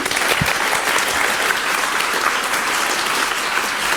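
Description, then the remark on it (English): A crowd at a presentation claps steadily throughout as a volunteer comes forward to play a game, a dense, even wash of many hands with no pauses and no voices over it, holding at a fairly loud level to the end. “A random applause.”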